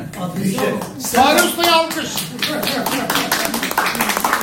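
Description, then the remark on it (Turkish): A crowd applauds their cook, who made the börek, with steady, dense, overlapping claps, while voices call out over the clapping throughout. “Şimdi alkışlıyoruz çünkü.”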